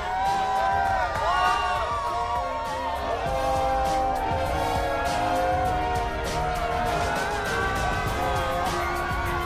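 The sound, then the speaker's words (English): A large outdoor crowd of Giants football fans cheers and shouts steadily throughout after a big Giants victory, a dense, loud wash of voices with scattered whoops and calls rising above the roar. “You see the fans outside. They're still hanging around with us, enjoying the crowd, and why not?”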